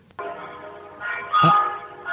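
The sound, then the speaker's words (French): Bells ring continuously behind the speaker in a dense, sustained wash of overlapping tones, swelling louder partway through, with a brief sharp noisy burst cutting in near the middle. “Très bien, un tout petit peu moins bien que les cloches qui sont derrière moi, mais ma foi, je vais faire avec.”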